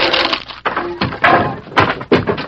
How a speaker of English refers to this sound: The hinges are torn loose. Looks as if there's been an explosion inside. Hold your gun ready while I open the door.